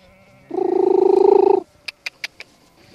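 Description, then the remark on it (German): A shepherd calls his flock of sheep on a snowy field in winter near Kaufdorf, Canton of Bern, Switzerland: a low, rolling, trilled vocal sound held for about a second, followed by four quick, sharp clicking sounds in an even rhythm. “Das ist für die Schafe, so rufen.”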